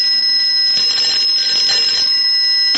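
A telephone rings with a loud, shrill, continuous bell tone that holds steady for a few seconds, with a faint rattling pulse running through it and no voices.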